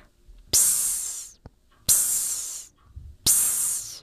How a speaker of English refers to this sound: Finally, when the steam hisses, make your own hissing sound in time with the music.